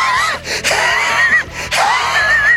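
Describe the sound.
A voice imitates a bear gasping and huffing after M&Ms were doused with Tabasco: several loud, breathy, strained heaves in quick succession, with no words spoken.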